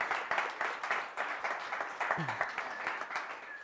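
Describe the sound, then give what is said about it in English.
An audience in a church applauds steadily, many overlapping claps forming a dense, crackling wash at moderate volume, with a brief low vocal whoop partway through, honoring an 85-year-old church elder. “Give her a big round of applause for being awesome.”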